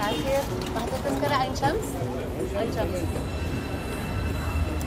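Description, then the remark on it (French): A Cairo metro train rumbles steadily along the rails toward the Aïn Shams district, Egypt, with a constant low roar and faint rhythmic clatter, with some indistinct voices mixed in. “Le métro nous mène jusqu'au quartier d'Aïn Shams, où vit une importante communauté soudanaise.”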